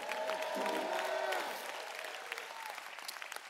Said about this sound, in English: If you believe it, clap your hands and give God a mighty shout.